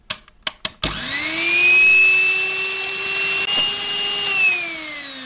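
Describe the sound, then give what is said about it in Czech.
A few sharp clicks, then an electric hand mixer whirs up to speed and runs steadily with a loud, high motor whine while egg whites are whisked with a little salt and a spoonful of sugar until smooth, to top a baked rice pudding; no one speaks. “Zbývá teď vyšlehat sníh s troškou soli a taky lžící cukru, hezky dohladka a tím pak budeme zdobit vršek toho rýžového nákypu, abychom to zapekli ještě chvilku v troubě.”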